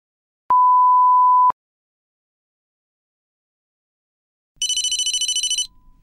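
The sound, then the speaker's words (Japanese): A single steady electronic beep, then after a pause a short, bright burst of telephone bell ringing with a fast rattling trill, cut off after about a second, as a phone call is placed to Midori Kindergarten. “その予定について職場の人と電話で話をしています。”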